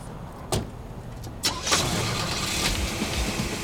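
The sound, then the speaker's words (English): Two sharp clunks, then a car engine cranks and catches, settling into a steady rumbling idle. No one speaks. “Let's get in the car, man.”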